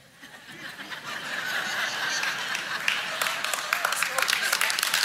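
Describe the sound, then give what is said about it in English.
An audience breaks into clapping that swells from quiet to a steady, dense applause, with sharp individual claps standing out toward the end and a murmur of voices and light laughter mixed in. “And they're clapping because they love you.”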